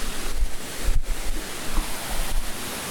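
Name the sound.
flowing water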